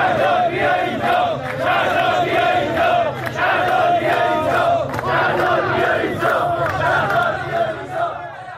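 A large crowd of striking Tehran bus and BRT drivers and workers, gathered in front of the central office of the Vahed bus company in Iran on the first day of their strike, chants together in loud, sustained unison, voices rising and falling in a steady rhythmic pattern with no breaks or quiet moments.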